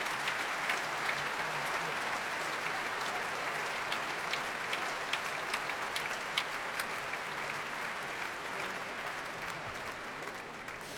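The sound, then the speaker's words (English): Sustained, dense applause from a full audience at the Royal Albert Hall, steady and enthusiastic throughout. Sharper tapping clicks are scattered through it as the Pittsburgh Symphony players tap their bows on music stands for the soloist, Hélène Grumeau. No one speaks. “Well, much tapping of bows on music stands and a general applause from all the players for tonight's soloist, Hélène Grumeau, as well as warm applause from a full Royal Albert Hall.”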